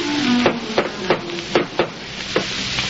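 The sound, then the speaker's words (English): Six sharp raps by Professor McGargle on the door of Mrs. Tubbs' house, loud and crisp, come in an uneven rhythm over a steady background hiss and faint hum, with no talking. “Tubbs' comfortable house, he adjusts his purple brocaded vest, flourishes a tattered handkerchief at his dusty shoes, and raps smartly on the door.”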